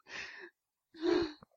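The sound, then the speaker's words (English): A short coughing fit brought on by laughing: two harsh, breathy bursts about half a second each, the second louder and ending in a small catch of breath. No one speaks. “The laughing's making me cough.”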